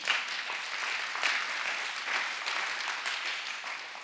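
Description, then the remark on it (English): A church audience claps for the Holy Spirit during a sermon, a steady, dense wash of applause that holds an even loudness for several seconds, with no voices over it. “Clap for the Holy Spirit.”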